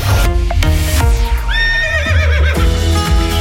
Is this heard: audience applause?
no